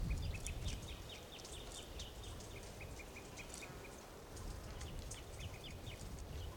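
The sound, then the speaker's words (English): Several birds call over a steady low rumble, with a toucan among them: rapid, repeated high-pitched chirps and short whistled notes that keep going throughout, fairly faint, with no talking. “Birds are calling a toucan nearby.”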